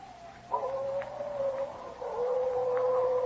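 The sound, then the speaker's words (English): Coyotes howl at night in long, sustained wailing tones that slide slightly in pitch, one voice overlapping another, steady and fairly loud over a faint low background hum. “Yeah, them slinking coyotes sound like banshees are wailing the night.”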